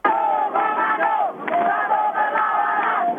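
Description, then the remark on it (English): Hundreds of protesters in Jakarta, Indonesia, shout in unison against the armed forces on its 53rd anniversary, demanding the army get out of civilian life, a loud, dense mass of raised voices that swells continuously, dipping briefly just past the midpoint before surging again. “Get the army out of civilian life and back into the barracks, shouted hundreds of protesters who believe the Indonesian armed forces have nothing to celebrate.”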